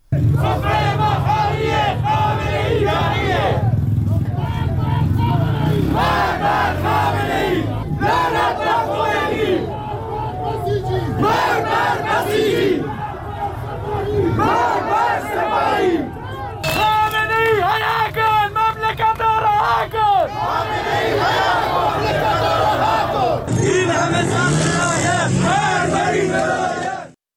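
A large crowd of protesters in Iran chants slogans in loud, rhythmic unison in the streets after a speech by Molavi Abdolhamid, voices rising and falling in repeated phrases with steady crowd noise throughout and no single speaker standing out.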